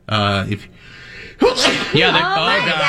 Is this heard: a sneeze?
yes